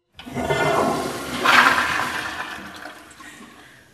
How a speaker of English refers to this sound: So that was the toilet flushing, which we're very proud of because we're using recycled water, and we've been able to save over 1.5 million gallons of potable drinking water